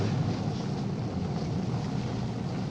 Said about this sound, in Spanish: apenas visible bajo la cortina de lluvia que se abate sobre el paraje. ¡Regresen! ¡Regresen a las barracas! La tormenta es cada vez más fuerte.